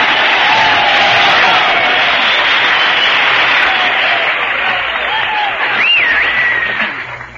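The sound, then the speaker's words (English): A studio audience bursts into loud, sustained applause with scattered cheers and whoops, a dense wash of clapping that holds steady for several seconds before starting to taper off. “Gee, what a lot of applause I got.”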